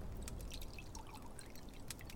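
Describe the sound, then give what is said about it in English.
Soup pours steadily into a bowl, a continuous splashing trickle with faint bright clinks, lasting a couple of seconds with no voices. “Now let me pour you a bowl.”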